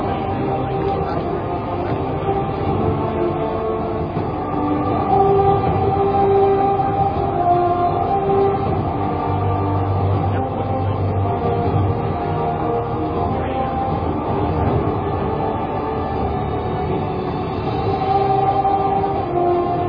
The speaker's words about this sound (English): Central Support Systems Operator, turn on the water boost pump. Water boost pump is on. The water boost pumps have just been turned on. These pumps increase the water pressure as needed for the water deluge system.